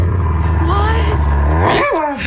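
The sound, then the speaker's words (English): A dog named Bruce growls low, steadily and loudly for a couple of seconds, then the sound bends upward into a short, rising whine-like yowl at the end, in reaction to being told he is adopted. “And they decided, like, now might be a good time to tell the dog that he indeed is not naturally born from them, but he indeed is adopted.”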